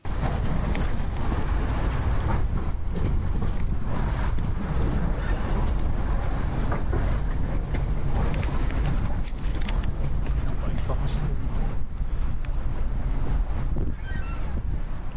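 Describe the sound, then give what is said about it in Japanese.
Strong wind buffets the microphone over steadily lapping water of the Sumida River on a very windy day, with a floating pier, like a small floating island, creaking faintly now and then as it sways in the wind beneath the continuous rush, loudest near the end. “ウィーンウィーンって、これはね、波に浮かんでるちょっとこう浮き島みたいなのがこう風に、あ、この日すごい風が強かったんですけど、風に揺られてウィーンウィーンって”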